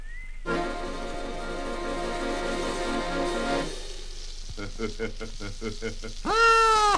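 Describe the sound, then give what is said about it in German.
A large witch's soup pot bubbles and boils in a cartoonish way: a steady, tonal simmer, then a run of quick rhythmic blips, ending in a louder rising burble. No one speaks. “Mensch, Räuber, das kocht ja prima, kocht das ja schon.”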